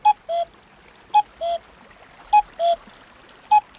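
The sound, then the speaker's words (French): A common cuckoo calls its two-note "cu-coo" over and over, a higher note dropping to a lower one, repeated about four times at a steady pace over a soft, hissing background. “Ah, le coucou a mauvaise réputation.”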